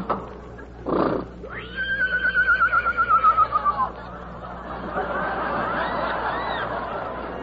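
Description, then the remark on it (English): A lame horse lets out one loud whinny in a bitter storm, a high quavering neigh that wobbles and slowly falls over a couple of seconds, followed by a steady rough, hissing noise. “So be it then, but still we may not ride the horse.”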